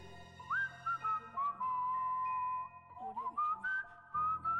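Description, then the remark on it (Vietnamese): Someone outside whistles a wandering tune, sustained pure notes sliding up and down, with a faint low background hum and no talking. “Có tiếng huýt sáo từ bên ngoài vọng vào, không nghe ra là làn điệu gì.”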